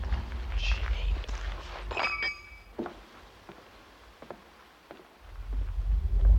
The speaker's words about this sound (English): You're walking along the sidewalk and then you hear the sidewalk and the noise. Walking along the sidewalk. Running water noise going underneath your feet.